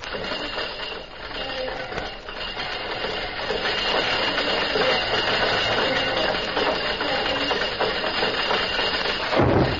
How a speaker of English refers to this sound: Guard! Guard, down with the bridge! I am awaited! In a moment, the bridge is lowered into place.